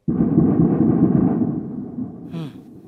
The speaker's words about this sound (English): the strikes sounded really bad even while they were happening. We heard hours of very, very loud explosions like these.